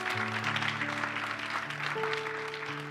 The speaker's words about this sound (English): Can we give God a good hand clap? Come on, put your hands together.